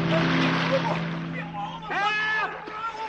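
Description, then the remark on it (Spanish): A loud, rushing splash as Clarence, the apprentice angel, falls from a bridge into dark, fast-flowing water, the turbulent spray trailing off over about a second, followed by a voice crying out for help in a raised, wavering tone. “De pronto, se oye un golpe en el agua.”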